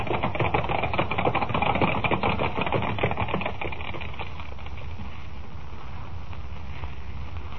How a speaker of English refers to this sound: Thundering hoofbeats echo through the crowd-lined street as the 6 white horses, suddenly gone wild, carry the swaying silver carriage to almost certain doom, while the thousands of people who only a moment ago were cheering wildly look on aghast.